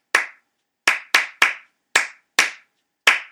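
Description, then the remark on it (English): Sharp, bright hand claps, about eight of them, layered one over another so that 3-2 and 2-3 clap patterns overlap, landing in an uneven syncopated rhythm with some claps close together. No voices. “And that was me, you know, in the hot box, just layering claps over one over another and just saying, okay, that's a start to something.”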